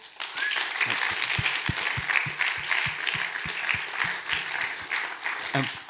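An audience applauds steadily for about six seconds, a dense, loud wash of many hands clapping with a few sharper individual claps standing out and faint voices mixed in.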